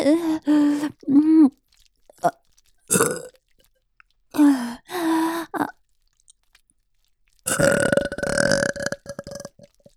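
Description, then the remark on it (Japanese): A series of loud burps in irregular bursts, some short and croaky, others drawn out, ending with a long rasping belch that rumbles on for a couple of seconds. “ゲップ好き。”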